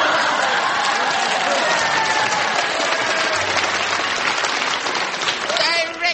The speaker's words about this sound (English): Signals applause. Please. I have drunk my fill of the clapping.